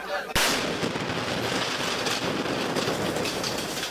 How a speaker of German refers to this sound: Am 1. August versammeln sich Separatistenoffiziere im El-Jala-Camp unweit der Hafenstadt Aden, um sich eine Militärparade von Kadetten anzuschauen. Plötzlich schlägt eine Rakete ein. Der Moment der Explosion ist in einem Video zu sehen.